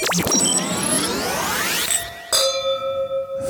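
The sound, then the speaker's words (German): Drinking glasses clink together, first in a bright clash at the start and again about two seconds later, each strike leaving a clear, sustained glassy ring. Fairly loud, with no talking. “Ist dein Glas etwa schon wieder leer?”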